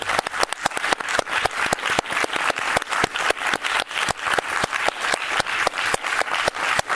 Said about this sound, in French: Alors, c'est ce qu'on va faire maintenant, on va vous applaudir et vous remercier. Merci. Merci. C'est gentil. Et c'était chouette. Bien, on s'est applaudi.